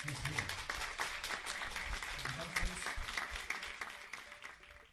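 Sustained applause from an audience, dense overlapping claps filling the whole stretch at a steady level, with a faint murmur of voices underneath.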